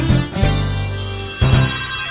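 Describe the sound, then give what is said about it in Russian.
A telephone rings loudly, two electronic ring bursts with a sustained buzzing tone between them, no voices present; a female radio listener is calling in. “Звонит радиослушательница.”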